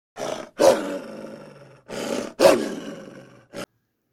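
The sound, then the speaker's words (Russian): A voice imitates a wolf's growl while reading a story aloud to a child: loud, throaty rumbling roars in a few bursts, two short ones each followed by a longer drawn-out growl, then a brief final grunt. “Рычите за волка.”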